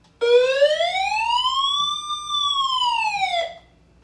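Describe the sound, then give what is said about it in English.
A personal SOS alarm, set off by pushing its button, wails loudly, one sustained harmonic siren tone sweeping up and back down over about three seconds before cutting off abruptly. No voices. “I'm not going to set it off long, but here's how loud the SOS siren is if you push the button.”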